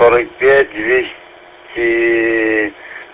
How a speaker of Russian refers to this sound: Нет, нет, у нас это самое. Эхо-репитер 145-325, попугай.